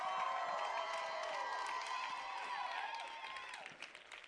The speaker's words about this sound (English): Now let's give Jesus one more hand clap and shout.